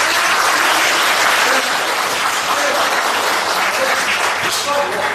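An audience claps steadily, a dense wash of applause that stays loud and even for about five seconds without letting up.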